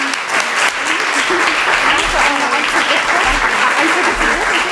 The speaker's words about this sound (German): Applaus.